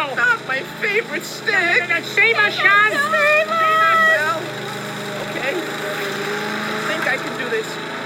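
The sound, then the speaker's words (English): A lawnmower engine drones fairly loud as it approaches, with warbling, wavering tones riding over it for the first few seconds before it settles into a steady, rough hum. “The lawnmower is coming. The end is near.”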